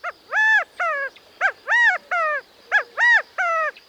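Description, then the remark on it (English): A male California quail, hopping up onto a stump, gives its loud rallying call to gather the covey together: repeated three-note phrases with a short first note and two longer, slurred, nasal notes, alone with no talking. “With such a large extended family, it's not surprising when a male California quail hops up onto a stump to gather the covey together with this rallying call.”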